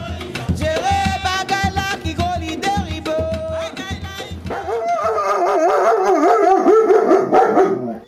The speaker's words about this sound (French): Ouais, non, mais le chien, il est très chaud. Voilà. Et il aboie fort. Et puis, lui, il saute, en fait. Il est plus grand que moi quand il est debout, tu vois.